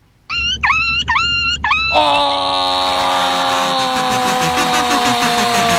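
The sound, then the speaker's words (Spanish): A person imitates a dog that has been run over: four sharp yelps in quick succession, then a loud, drawn-out whimpering wail held steadily to the end, strained. “Parece que era un perrito atropellado, ¿no?”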